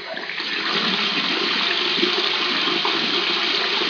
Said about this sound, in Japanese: いや、この水ですよ。水。これね。これ蛇口から今水を出しましょう。ね、この蛇口がね。